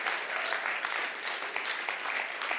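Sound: audience round of applause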